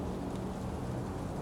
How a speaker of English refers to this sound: I notice rain beginning to fall. And I notice the scent of rain.